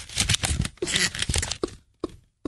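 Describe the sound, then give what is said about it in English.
Paper being wadded up, a dense run of crisp crinkling and crackling that comes in bursts, then trails off into a few last scrunches before going quiet. “I'm now wadding up the paper.”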